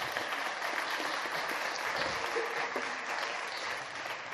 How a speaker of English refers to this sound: Doing a great job. Round of applause for it. Yeah.